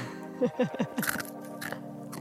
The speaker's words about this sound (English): Crunchy chickpeas. Oh, crunchy chickpeas.